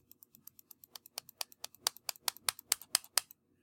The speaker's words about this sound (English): I'm an evolved human being who can use a two-button mouse. Anyway, you just right-click on it. Can you hear me right-clicking?